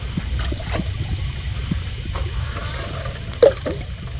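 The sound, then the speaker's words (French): Oars row a boat, dipping and pulling through water in slow, uneven strokes, with a steady low wash of water underneath and a sharper splash near the end. “Alors là, ça évoque des bateaux parce que c'est probablement les rames, mais si on regarde pas.”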